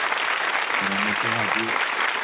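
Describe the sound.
Steady, dense applause runs through the whole clip, a continuous wash of many hands clapping as a standing ovation on the Sabonsky West Show, welcoming a new NBA panelist, with a voice briefly rising over it partway through.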